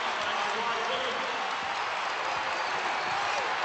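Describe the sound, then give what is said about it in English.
A large basketball arena crowd in Chapel Hill, on its feet during the first half of a game, roars and cheers in a dense, unbroken wash of noise that holds steady and loud for the whole few seconds, with no single voice standing out. “Crowd on its feet in Chapel Hill.”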